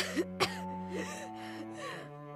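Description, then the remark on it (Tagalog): Two quick, sharp coughs in close succession near the start, loud coughing from a woman with tuberculosis in a bedroom, followed by a steady tonal hum with no voices. “Pagkatapos ay narinig ko ang malakas at sunod-sunod na pag-ubo ng aking biyanang babae mula sa kwarto kung saan siya naroon.”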